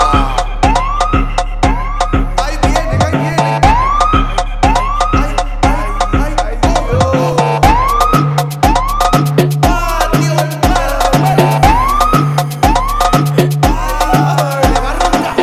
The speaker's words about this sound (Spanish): Ustedes son unos hueveros como los policías. Estamos buscando carta blanca con la sirena prendida. Como los policías. Andan buscando carta blanca con la sirena prendida.